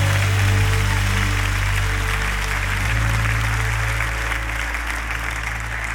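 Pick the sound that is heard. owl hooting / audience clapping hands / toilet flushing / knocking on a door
audience clapping hands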